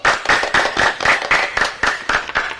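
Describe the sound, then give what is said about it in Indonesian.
A group of children clap their hands together in a steady, quick rhythm, about four claps per second, bright and fairly loud, with no talking over it. “Beri tepuk tangan, anak-anak.”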